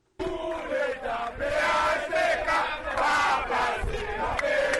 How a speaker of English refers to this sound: Plusieurs milliers de partisans candidats Jude Célestin, Maurice Jean-Charles avec Maïs Nancis, ont manifesté dans Port-au-Prince pour demander KEP à retirer dans la course là, candidat PHTK, parti qui sous pouvoir, Jovenel Moïse.